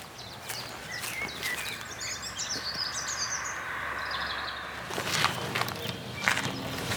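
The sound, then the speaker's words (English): Several birds sing and chirp outdoors near an old airfield at Hightown Green, south of Rattleston, their bright warbling phrases rising over a steady background hum, while crunching footsteps pass toward the end. “These are the birds of Rattleston.”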